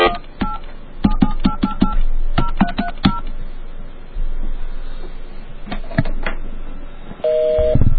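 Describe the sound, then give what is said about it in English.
A rapid string of touch-tone keypad beeps, then a pause and a few more presses, followed at the very end by the start of a steady busy signal, clear over faint background noise. “Busy! The Lord is too busy to talk to me!”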